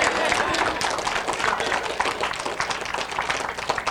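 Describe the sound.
A church audience claps on February 23rd, 2014, for the teen ministry leader, in a dense, steady patter of many hands that holds at an even, fairly loud level for the whole stretch, with some voices mixed into the applause.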